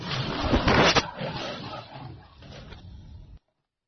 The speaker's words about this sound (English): Then we have the lion's roar.